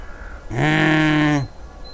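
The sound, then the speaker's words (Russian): One long, harsh, loud caw from a crow, lasting just under a second against a faint, quiet background with no talking. “Даже ворона устроила предвесеннюю уборку в своем гнезде.”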